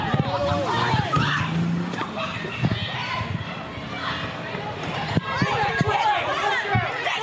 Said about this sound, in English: And that's when this angry mob of protesters, they started smashing this car of this 74-year-old driver who was just easing his way through the crowd, and then he sped off.